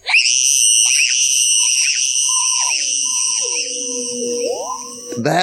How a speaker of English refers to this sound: That is the Zach Wilson scream.